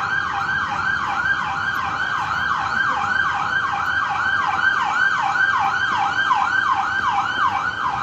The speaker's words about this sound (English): Okay, the ambulance is coming.